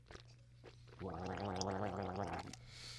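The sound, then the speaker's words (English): Wine swished and gurgled in the mouth: a wet, bubbling gargle with a low voiced hum running through it for about a second and a half, after a few soft clicks. “Now we'll roll it around on the tongue.”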